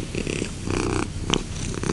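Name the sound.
domestic cat purring loudly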